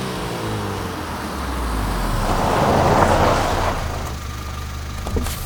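An emergency response vehicle's engine rumbles as it approaches along a street, its noise swelling steadily to a peak midway, then settling into a lower idle as the vehicle pulls up, with a brief clunk near the end.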